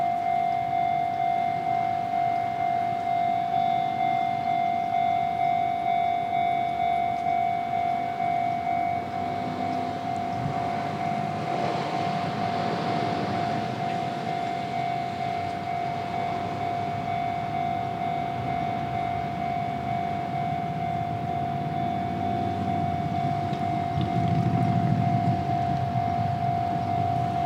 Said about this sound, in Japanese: 皆さん何の変哲もない踏切の音に聞こえるかもしれませんが、こちらが、鎌倉高校駅前の、スラムダンクのオープニングでも出てきた、踏切の音でございます、ね、言われないとわからないですよね。